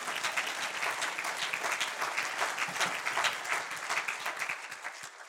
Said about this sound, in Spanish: Denle otro aplauso, está bien, mientras yo tomo agua.